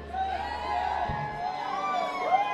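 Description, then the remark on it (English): A concert crowd screams and cheers to win a free band t-shirt, many high voices overlapping in wavering whoops that rise and fall, loud and sustained without a break. “You have to scream a lot louder than that.”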